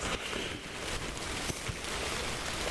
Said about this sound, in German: Es regnet übrigens.